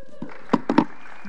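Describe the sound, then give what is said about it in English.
Three sharp, scattered claps ring out in quick succession over a faint low hum, with no talking, as a church audience begins applauding after a Bible reading. It sounds like the first few hands starting to clap rather than full applause. “And definitely worth a clap.”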